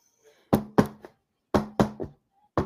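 Firm knocks on a door, two quick sets of three raps and then a single knock, sharp and fairly loud, with no one talking.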